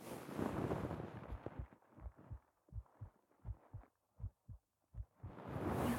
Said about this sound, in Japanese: 心音の音はほぼ一緒かな。